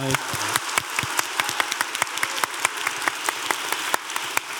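An audience breaks into applause, a dense patter of many hands clapping at once with sharper individual claps standing out, steady and moderately loud for several seconds with no one speaking.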